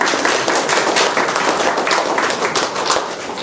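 round of applause

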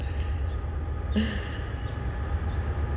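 train passing by

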